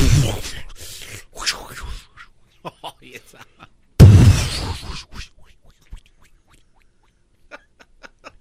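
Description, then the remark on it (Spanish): A voice imitates thunder with two loud, low rumbling bursts, the second starting abruptly. Each fades into scattered clicks and small mouth noises. “O usted le hizo igual que un trueno. Igualito, que un trueno.”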